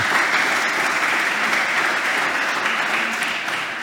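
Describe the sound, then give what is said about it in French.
A crowd claps steadily for a few seconds, a dense, continuous patter of many hands that stays loud throughout and eases slightly near the end, with no one speaking. “Et en plus, on est vachement heureux parce qu'on a un public qui est très réjouissant et qui applaudit dès qu'on le demande.”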